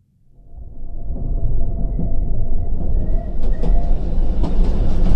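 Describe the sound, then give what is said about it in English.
A train rolls along the rails with a steady low rumble and faint rhythmic clatter, building from quiet to loud within the first second and staying continuous. “But a train, that's different.”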